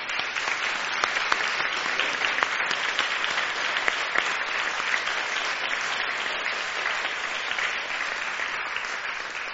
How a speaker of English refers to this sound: Let's give her a clap.